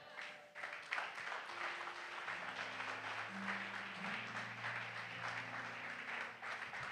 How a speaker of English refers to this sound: Rise on your feet whilst you are clapping. Rise on your feet whilst you are clapping. Keep clapping. It shows that you've got it.